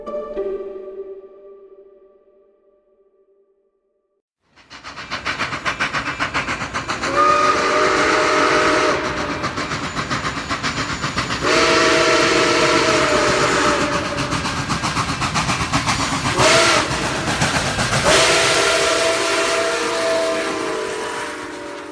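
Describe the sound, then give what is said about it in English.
A train rumbles and hisses loudly while its steam whistle sounds several long blasts, some stretched for seconds, over the constant clatter of the moving cars. “Trains are a big part of American culture because they're really fascinating in so many ways.”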